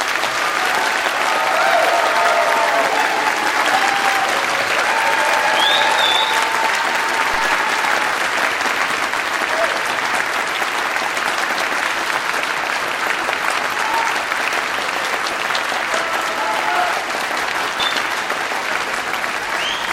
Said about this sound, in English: You may now offer your full applause to these graduates.